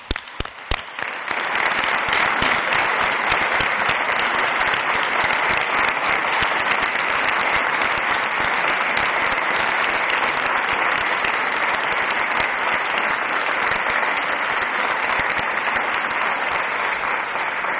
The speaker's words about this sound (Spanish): Ellos también creo que necesitan un aplauso, o se merecen.